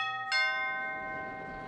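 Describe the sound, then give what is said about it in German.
A doorbell at the von Drösel apartment on Brunnenhildestraße 10 chimes clearly, one soft tone followed quickly by a brighter struck note whose ringing overtones linger and slowly fade, with no voices present. “Bitte bei von Drösel klingeln und Schuhe ausziehen.”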